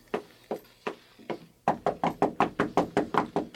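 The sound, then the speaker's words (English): Knocking on a door by a man outside who wants to come in: a few slow, evenly spaced knocks, a short pause, then a louder, faster run of about ten insistent raps, with no voices. “He's outside the door and he wants to come in.”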